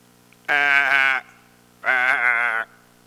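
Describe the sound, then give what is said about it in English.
A sheep bleats twice, two loud, wavering baa calls of under a second each, separated by a short pause, with no other sounds around them. “And what does David know in his life? Sheep.”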